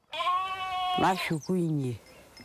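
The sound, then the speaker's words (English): A sheep from a family's flock bleats twice in the early morning in Kiserian, a town 30 kilometers from Nairobi: a long wavering cry followed by a shorter one after a brief rustling pause, loud and clear against a quiet background. “I then check on the sheep's health, and I tend to the sickly ones.”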